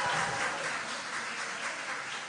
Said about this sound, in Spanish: Muy bien, un fuerte aplauso para Jesús.